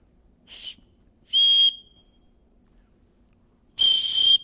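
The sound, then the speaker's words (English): A referee's whistle blown three times: a soft, short first toot, then two loud, shrill trilling blasts, the last one longest. The shrill tone stands alone, with no voices. “I brought a whistle with me in here. Let me see if I can blow this thing.”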